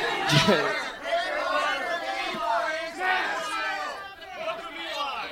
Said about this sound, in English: All right, yell out the ones we missed. One at a time!